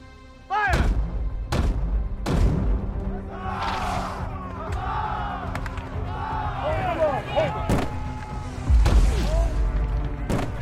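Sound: cannon fire bombardment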